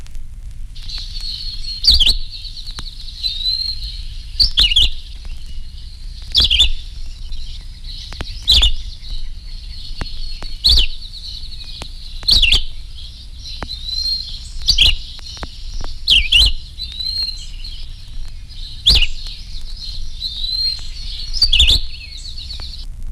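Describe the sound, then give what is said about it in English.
A red-eyed vireo sings short, repeated chirping phrases in a steady, unhurried rhythm with brief pauses between them, clear over a quiet background with no talking. “The red-eyed vireo says, "See me, over here, hear me," as he feeds leisurely through the treetops of village or forest.”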